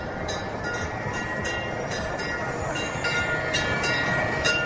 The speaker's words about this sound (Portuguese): Tangtang é um apelido que os habitantes de Beijing deram ao ônibus elétrico. Quando o ônibus passa, o pequeno sino pendurado no ônibus toca para alertar os pedestres.